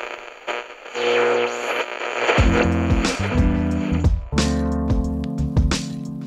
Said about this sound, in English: Hear that? All those stations, all that static, and then suddenly one song grabs you.